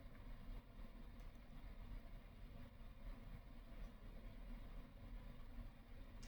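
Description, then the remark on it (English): A car with a very noisy engine goes by, its loud, rough engine rumbling low and steady throughout, holding a fairly even level without a clear rise or fade, with no voices present. “You hear a car with a very noisy engine go by.”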